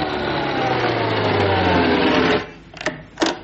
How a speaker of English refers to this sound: Look at the Admiralty, and there's the head of the Admiralty just arriving in his car.